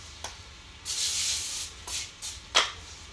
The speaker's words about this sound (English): Piece of foil and fold it up on the edges. I'm gonna take just some cooking spray and spray that down really quick so we don't have to worry about stuff sticking.